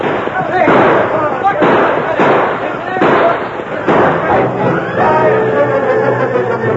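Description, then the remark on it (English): A flurry of sharp gunshots crackles back and forth as a posse fires from a stagecoach and outlaws return fire, loud irregular bangs every second or so over several seconds, with voices shouting beneath the later shots. “First, they tried to return the fire of the posse.”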